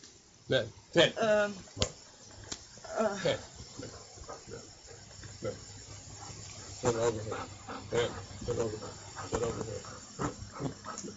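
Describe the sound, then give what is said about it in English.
A dog makes a few short, yelping vocal bursts, spaced out over a hissy background, with people talking intermittently around it. “It's a nice dog.”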